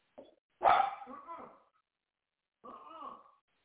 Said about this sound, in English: No barking. No barking. No. No barking. No.